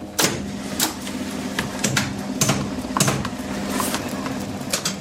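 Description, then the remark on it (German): Loud mechanical ticking from an electric bell-ringing relay in a cellar, triggered by a punched tape so it strikes the bell hammer, sharp clicks at an irregular pace following the pauses and rhythm of a song, over a steady low hum of machinery, with no voices. “Hier unten im Keller sind die Glockentöne um ein lautes Ticken.”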